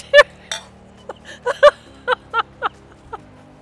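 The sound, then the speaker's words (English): A series of bright, ringing clinks, about nine of them in quick, irregular succession, as glasses clink together in a toast, with a faint murmur beneath. “Cheers.”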